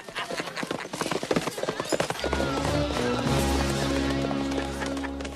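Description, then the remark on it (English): Rapid hoofbeats of three horses galloping off in a busy clatter as the Three Amigos ride away, then loud sustained orchestral music swells in and covers the fading hooves. “Firing his gun into the air, the three amigos leap on their horses and gallop off.”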